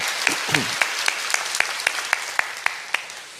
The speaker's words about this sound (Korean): 이렇게 명답이 오면 우리는 어떻게 해야 될까요? 박수로 화답합니다.